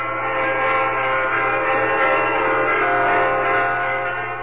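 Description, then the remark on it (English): Several church bells ring together in a dense, continuous peal in a United States city, rung at the exact time of the 1973 peace agreement signing, their overlapping tones blending into a steady, resonant wash at fairly loud level with no voices present. “In many cities in the United States, church bells were rung at the exact time of the signing, symbolic of the peace that everyone had waited so long for.”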